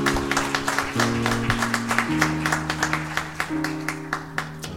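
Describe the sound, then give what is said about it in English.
An audience claps their hands together in a steady rhythmic beat, a hand clap of praise to God for the children, moderately loud, over sustained organ or keyboard chords that shift pitch partway through. “Give God a hand clap of praise for our babies.”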